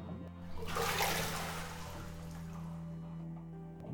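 Water sloshes loudly as someone wearing a swimsuit climbs into a bubble bath, a rushing surge that builds quickly and then settles into a softer, lingering swirl. No one speaks.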